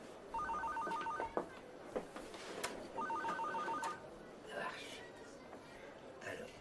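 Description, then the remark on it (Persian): A telephone rings twice, each ring a rapid warbling trill of high beeps separated by a short pause, heard over background noise with faint voices. “این تلفن جواب بده.”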